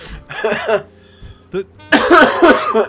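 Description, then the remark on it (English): A person coughs loudly: a harsh burst, a brief single cough after a pause, then a longer fit of several rapid, rough coughs in a row. “Stop fucking coughing.”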